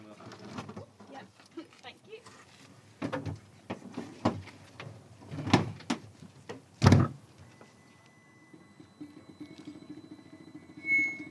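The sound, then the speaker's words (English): A few sharp thumps and clunks, then a white solar-powered car squeaks off down a racetrack with a thin, steady electric whine that carries on as it pulls away, over faint background murmur. “As Amy and the solar-powered car, Evolution, squeaked off down the racetrack”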